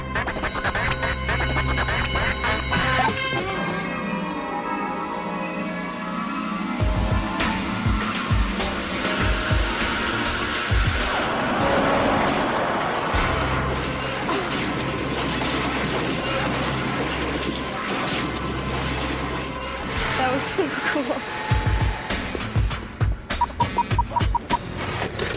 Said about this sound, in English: This cable pulls the car into the wall. The stains left by this wet paint will show us where the dummies' heads hit the car. This tape switch attached to the bumper hits the wall first, triggering all the instruments.